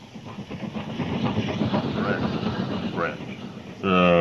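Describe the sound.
A train rumbles and clatters through a busy station, with indistinct voices murmuring underneath, before a loud, steady horn blast sounds at the end.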